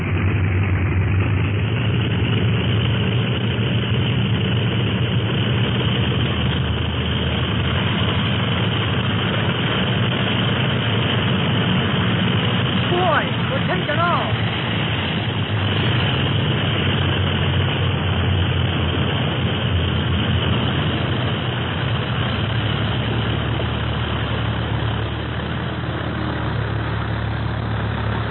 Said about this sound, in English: made a good takeoff. And just in time.